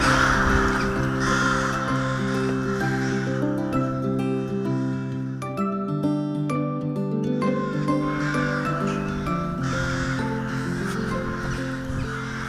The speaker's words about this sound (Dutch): Waarom vind je de roek zo fraai?